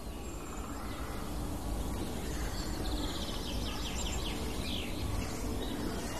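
Faint, hard tick calls of at least two hawfinches sound several times, sharp and clipped, over a steady outdoor background hiss with other soft bird chirps.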